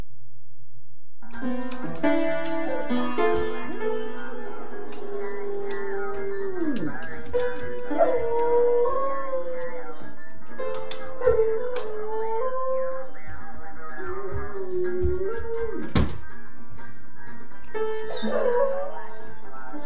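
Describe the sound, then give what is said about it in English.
A dog playing the piano howls in long, wavering, pitch-sliding cries over scattered, clunky piano notes struck at random, with a few sharp higher yips near the end; no talking. “Let's deal with the dog that plays piano.”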